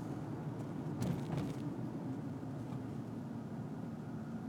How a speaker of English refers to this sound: what's happening here? Why are there suddenly a lot of cars? Oh, no. Oh, no.